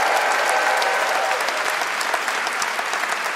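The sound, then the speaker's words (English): A live audience at a Freakonomics Radio show applauds the guests steadily, a dense wash of many hands clapping at once, fairly loud and sustained without pause, with a faint whistle-like tone briefly audible early on. “And could we please have one more round of applause for all our guests tonight?”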